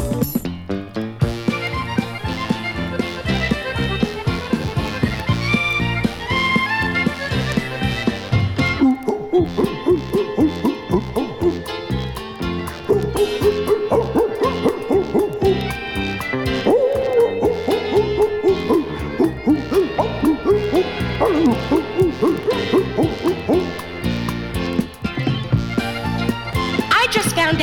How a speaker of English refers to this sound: Here then, listen carefully while Disco Dog sings your favorite song.